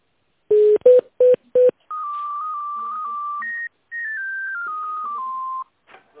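Four quick telephone keypad beeps sound in succession as a caller dials a menu option in tone mode on a company's automated phone line, followed by long, steady electronic tones that step gradually in pitch. No voices, just clear phone-line tones.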